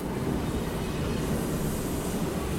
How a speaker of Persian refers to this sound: حالا فقط چند ایستگاه مترو تا شهر ری فاصله است. ترن در اطراف شهر ری دیگه روی زمین حرکت میکنه. حصارهای فلزی مسیر ترن رو از خونه ها و بچه هایی که اطراف ریل در حال بازی هستن جدا کرده.